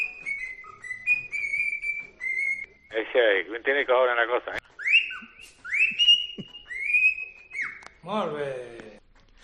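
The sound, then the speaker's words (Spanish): Clear, high whistling in a sequence of sliding, pitch-changing tones, alternating with short stretches of speech; the whistles are fairly loud, in Silbo Gomero, the whistled language of the Canary Islands. “Por ejemplo, en Canarias, el silbo, todo el un idioma silbo, silbando.”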